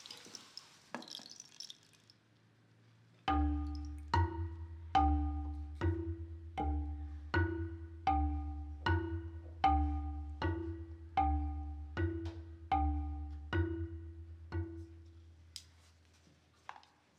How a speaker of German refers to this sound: Die Turmuhr schlägt 12 Mal.